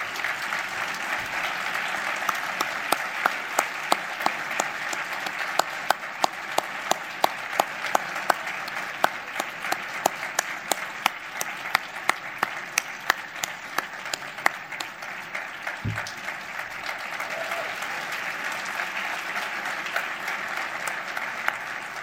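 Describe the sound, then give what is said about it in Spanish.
A large audience applauds steadily for about twenty seconds for the winner of a best short film award, a dense wash of clapping with some sharper individual claps standing out. “Un fort aplaudiment, sisplau.”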